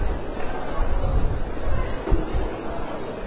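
crowd chatter

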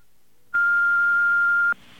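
answering machine beep

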